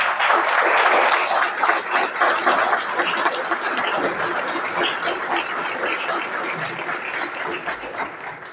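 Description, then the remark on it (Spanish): A steady burst of applause from a sizable crowd, dense and fairly loud, with many overlapping claps that ease off slightly toward the end. No one speaks. “Su impronta, su estudio, sí, habría que aplaudirlo.”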